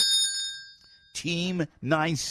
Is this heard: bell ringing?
yes